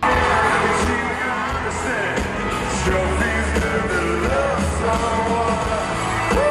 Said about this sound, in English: The crowd cheered for her. But this is kind of what it sounded like. Listen to this.